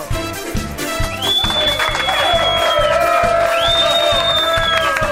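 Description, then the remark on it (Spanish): A loud studio audience in Madrid applauds and cheers steadily, welcoming a comedian onto a live COPE radio program, with sustained clapping, whoops and shouting voices layered over a dense, continuous roar, punctuated by a few high whistles. “Así que atentos todos, señoras y señores, recibamos con un fuerte aplauso al cómico más divertido y disparatado de la historia.”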